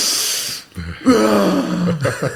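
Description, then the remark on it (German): A voice imitates the sharp, deep gasping breaths taken on entering cold water, a hissing inhale followed by a strained, voiced gasp, fairly loud. “Ja, aber es sind die ersten zwei Atemzüge, die sind schon tief. Und dann kommt halt dieses”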